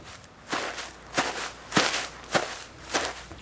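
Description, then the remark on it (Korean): Five soft, rustling footsteps drag along at an unhurried, even pace, each a broad swishing scuff over quiet background, gradually drawing nearer, with no voices. “어디선가 사르륵거리며 뭔가가 끌리는 소리가 났다. 웬 발자국 소리지?”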